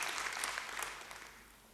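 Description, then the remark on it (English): A church audience claps for the Lord during a morning service, a dense, crackling wash of many hands with a few sharper slaps standing out, holding steady and then easing off slightly toward the end. No one speaks. “Can we clap for the Lord this morning, church?”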